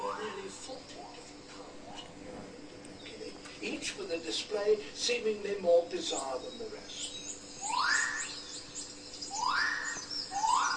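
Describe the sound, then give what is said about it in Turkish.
A male bird calls repeatedly in mating season to attract a female, ending with three loud, upward-swooping whistles spaced about a second apart, after softer scattered chirps, while people talk quietly in the background. “Dişisini kendine çekmek için bazı sesler çıkartıyor.”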